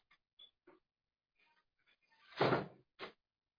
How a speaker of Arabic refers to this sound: اقفل الباب يا أبي.